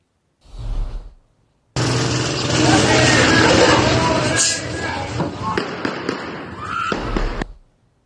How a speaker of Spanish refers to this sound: Escucha usted los tiros. Escucha usted los tiros. Se oye un grito.